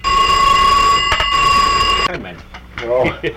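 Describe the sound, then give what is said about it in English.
A telephone bell rings in one loud, steady, metallic peal lasting about two seconds, then stops abruptly. A voice follows briefly afterward. “That's that boy's ring now.”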